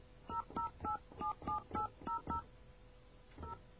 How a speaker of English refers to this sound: It's kind of cool. We have the doors open, so I can hear the touch tones echoing throughout the studio. That is pretty cool.